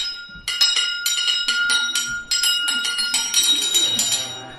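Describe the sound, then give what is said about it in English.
Many bells throughout a house, starting with a disused bell hanging in a room, ring loudly together in a rapid, overlapping clamor, bright metallic strikes piling up one after another with lingering tones, continuous for several seconds. “Soon, it rang out loudly, and so did every bell in the house.”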